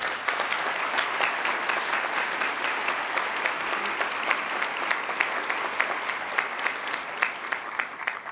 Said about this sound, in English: So please join me in applauding our nominees.